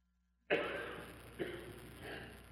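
cough

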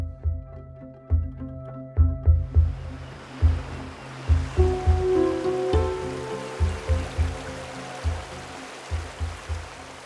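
flowing river water

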